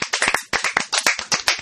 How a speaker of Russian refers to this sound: И вновь наши аплодисменты